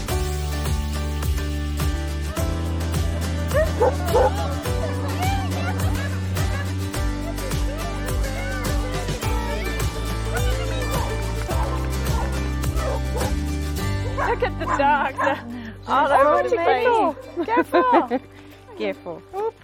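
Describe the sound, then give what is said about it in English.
A crowd of stray dogs at the Territorio de Zaguates sanctuary in Costa Rica barks and yelps at once, dense and overlapping, over a steady low musical drone, with louder yelping and howl-like cries near the end. “If a dog is lucky, it might end up here, at Territorio de Zaguates, or Land of Strays.”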